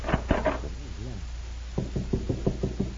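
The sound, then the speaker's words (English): A brief murmur of voice, then a run of about seven firm, hollow knocks on a door in a quick, steady rhythm. “I'll try this door.”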